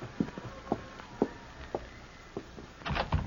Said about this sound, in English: And don't open that door so wide, you'll blow the lamp out.